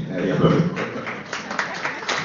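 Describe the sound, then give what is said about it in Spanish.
An audience applauds in a steady, dense wash of clapping, with individual claps standing out sharper toward the end and a murmur of voices mixed underneath. “Fuerte el aplauso, dijo.”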